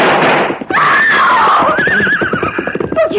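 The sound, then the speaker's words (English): A loud, harsh gunshot at the start of a holdup gives way to horses whinnying shrilly and continuously, mixed with screaming, all loud with no spoken words. “You shot my father!”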